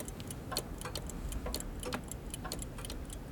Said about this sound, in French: Ah, voilà. Mon ami, peux-tu un instant écouter cette pendule que je viens de réparer ?